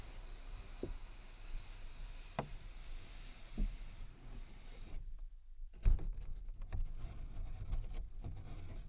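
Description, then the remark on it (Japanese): The pad of a finger strokes a paper bag, making a steady, soft papery hiss with a few dull, drum-like thumps, a short break midway, then rougher rustling. No one speaks. “今の指の腹で撫でてます。”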